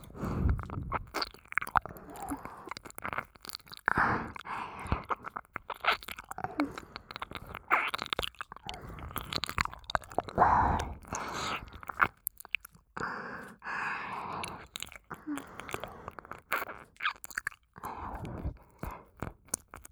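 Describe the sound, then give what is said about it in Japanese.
Wet mouth licking at the left ear, with continuous slurping and soft smacking in an irregular rhythm, and no talking. “左も舐めてあげますね。”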